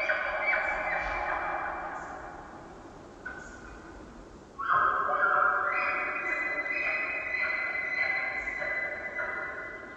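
An elk bull, trying to lure cows away from a competing bull's harem, and several elk cows calling back, call in long, drawn-out tones that overlap one another, echoing through a valley. The calls are steady and fairly loud, with a brief dip in the middle and no talking.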